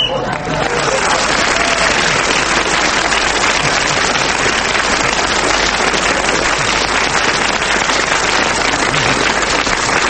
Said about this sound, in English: I don't know why you're clapping that